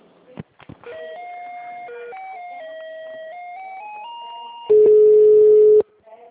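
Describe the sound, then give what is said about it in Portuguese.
A telephone hold tone while a caller waits on the line to be transferred to another department: after a couple of clicks, a simple electronic melody of stepped, two-note tones rises and falls, then a loud, steady mid-pitched beep holds for about a second. “Aguarda na linha, tá?”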